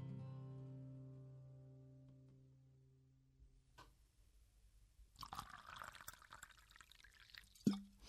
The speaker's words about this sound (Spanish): Y con el sonido del agua de fondo lo vamos a despedir.